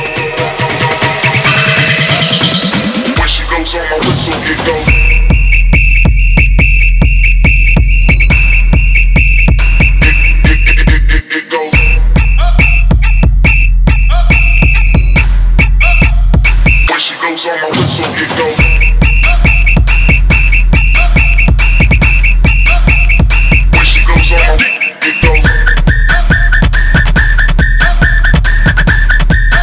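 A shrill, piercing whistle lead rides over a loud, pounding electronic dance beat, holding long steady notes with brief drops where the beat cuts out before slamming back in.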